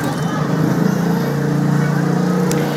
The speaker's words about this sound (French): Et si vous entendez le bruit du trafic, eh bien, c'est normal, puisque cette bibliothèque, elle se trouve nichée sous une voie rapide, sous un pont autoroutier à Jakarta, méga capitale de l'Indonésie.